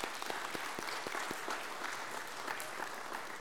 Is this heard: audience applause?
yes